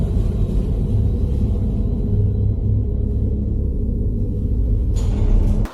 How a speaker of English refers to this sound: So guys, you join us in an underground car park.